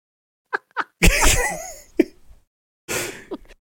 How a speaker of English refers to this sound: oh, I feel like I'm gonna sneeze. Sorry. Oh, here we go. First live bless you on the show.